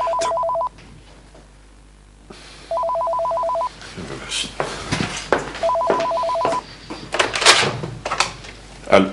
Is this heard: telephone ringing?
yes